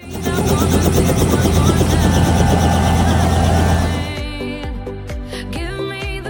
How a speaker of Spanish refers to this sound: Hola a todos, estamos llegando a Hangar 1 en San Fernando, donde Vesten Mercedes-Benz está organizando un evento increíble para todos sus clientes. Vamos a volar en helicóptero.